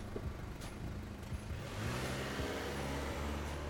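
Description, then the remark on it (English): A car is started up and its engine runs with a low, steady hum, then grows louder and rises in pitch as the car accelerates and heads out of a parking lot. No voices. “Sam places the camera into the bag in his trunk, jumps in his car, starts it up, and heads out of the parking lot.”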